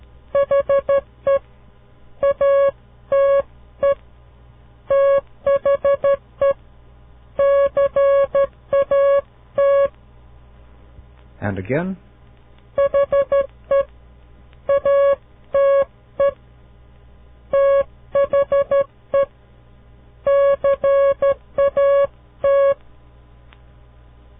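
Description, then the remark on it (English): Morse code tones spelling out the sentence "he ate the cat": steady, mid-pitched beeps in short and long pulses, grouped into letters and words. A voice speaks briefly partway through. “That was he ate the cat.”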